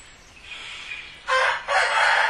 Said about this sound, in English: That Royce the rooster. That thing is cool. Keep that thing around, man. He knows we're in here talking the highest. He does a half crow. He's got different levels of. He's saying, come and get me, coyotes. That was a full one.